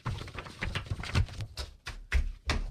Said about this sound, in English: him not talking and just ruffling papers